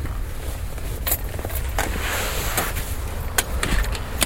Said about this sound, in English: I'm outside now. Can you hear the squish of the snow?